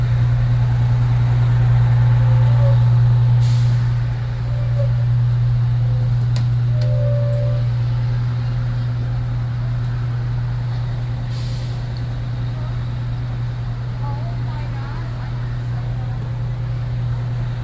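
A bus engine idles with a steady, deep rumble, punctuated twice by short, sharp hisses of air brakes releasing, with faint voices murmuring in the background.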